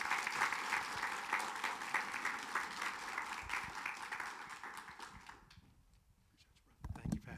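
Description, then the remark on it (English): A church audience breaks into steady, dense applause of many hands, welcoming a family as they come up this morning; it carries for about five seconds, then fades out to near quiet before a brief burst of noise at the end. “we want to make sure they applaud you too.”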